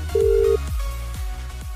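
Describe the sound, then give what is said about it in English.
A short electronic ringing tone of an outgoing phone call sounds once, a steady mid-pitched burst, over a thumping rhythmic music bed that carries on after it. “Got to make that call now. Please answer your phone with the machine noise”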